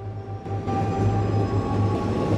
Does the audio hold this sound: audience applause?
no